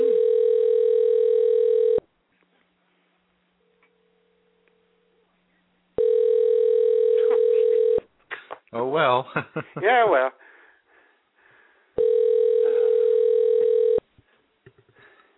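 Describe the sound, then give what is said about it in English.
A telephone ringback tone on a forwarded call sounds three times, each a steady, buzzy two-second ring separated by pauses of about four seconds. Someone speaks briefly between the second and third rings. “There's a ring one place, then there's a ring another place.”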